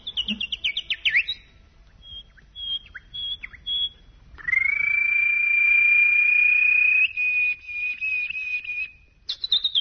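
Small birds chirp and trill in quick, high bursts during Radio Belgrade's morning programme, then one long, steady whistling note holds for several seconds before more short chirps return. No one speaks.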